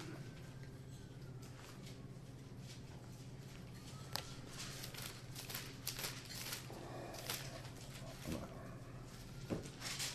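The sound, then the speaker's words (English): Soft papery rustling and brief crinkles as book pages are turned, a series of quiet, irregular flicks over a low steady hum, with no one speaking. “Why did I start turning the page?”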